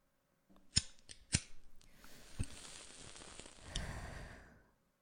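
A few sharp metallic clicks of a lighter, then a soft rushing hiss of flame and a drawn breath as a cigarette is lit, fairly quiet, with no talking.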